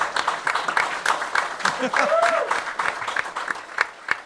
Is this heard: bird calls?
no